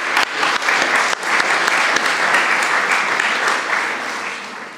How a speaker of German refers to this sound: Dankeschön. Ein Applaus.